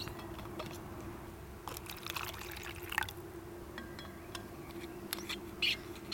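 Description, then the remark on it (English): Soapy water pours and splashes in short bursts into shallow pan trap bowls set out in a habitat for a survey, with faint trickles and drips between pours over a steady low outdoor hum. “And then we're going to fill them with the soapy water.”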